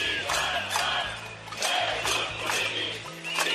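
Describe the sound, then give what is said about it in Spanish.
A large crowd of Catalan independence supporters chants in unison "Libertad para los presos políticos" near the Palau de la Música during the king's visit, loud rhythmic shouts rising and falling over a steady low hum, with sharp bursts of noise punctuating the chant. “Los independentistas, convocados por los llamados Comités de Defensa de la República, efectivamente gritaban «Libertad para los presos políticos».”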